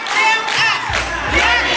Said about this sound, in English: Some parents in the crowd also began chants of their own.